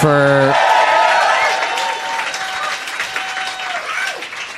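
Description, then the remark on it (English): An audience at Upright Citizens Brigade breaks into loud, sustained applause for the people there, with a few cheers and whoops rising over the clapping, which stays dense and steady for several seconds before tapering slightly. “Let's hear it for them.”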